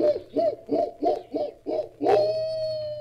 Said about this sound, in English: Here's a cage of chattering rhesus monkeys. And over here a den filled with noisy baboons.